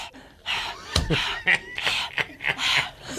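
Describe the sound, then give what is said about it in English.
A person mimics a panting dog with a quick, steady run of breathy huffs and gasps, fairly loud, with no talking. “I'm like, all of our listeners know what a panting dog sounds like, but you still had to make it a point to go.”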